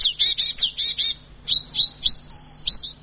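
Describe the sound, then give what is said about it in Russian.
Songbirds chirp in winter in Lithuania: a quick run of five bright, rising notes, then a looser series of sharp, high tweets and short whistles. No voices are heard. “В этом выпуске птицы зимой. Не просто птицы, а литовские птицы.”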